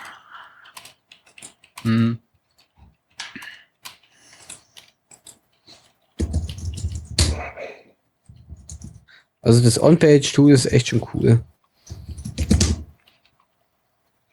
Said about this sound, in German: Und irgendjemand tippt hier verdammt laut in die Tasten. Ich bin es nicht, diesmal.